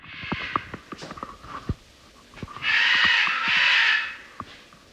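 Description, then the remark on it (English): A parrot screams outside the window of a small back house surrounded by wilderness and tall ponderosa pines, at night. It gives two long, loud, harsh screeches back to back that sound like "Oh my God," preceded by a scattering of sharp clicks and taps. No one speaks. “Outside my window, there's a parrot. It sounds like it's screaming, "Oh my God."”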